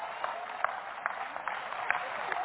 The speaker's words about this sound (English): Oh, come on, clap anyhow. Praise God.